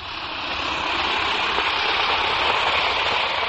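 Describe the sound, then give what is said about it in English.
A steady, dense fizzing hiss of an Alka-Seltzer effervescent antacid tablet dissolving in water, a continuous crackly bubbling that holds at an even, fairly loud level throughout with no voices. “Now, listen to it fizz.”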